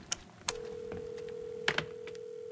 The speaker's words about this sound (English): Come on, let's go make a phone call. Let's go, you guys. It's ringing. I'll put it on speakerphone.